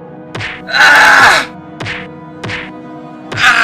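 Sharp thudding blows of a beating under torture land at uneven intervals, each followed by a short strained groan, and one long, loud anguished cry of pain rises between the first blows.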